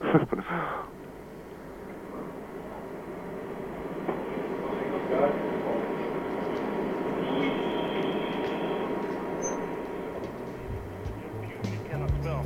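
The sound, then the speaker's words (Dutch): A water cannon truck standing out front rumbles in a steady, unbroken low drone that holds an even loudness for the whole stretch, with a brief rougher burst right at the start. “Maar voor de rest hoor ik op dit moment alleen maar geronk van het waterkanon wat voor staat.”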